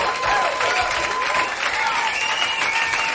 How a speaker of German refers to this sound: Super gemacht! Hier kommt ein Applaus!